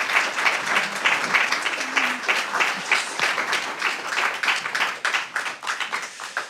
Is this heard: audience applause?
yes